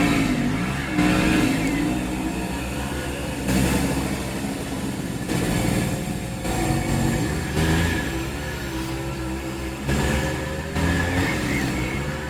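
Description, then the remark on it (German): A small moped engine buzzes and revs steadily for several seconds, loud, its pitch rising and falling slightly as it runs, with no voices present. “Ich glaube, heutzutage nennt man Mofa auch E-Bike.”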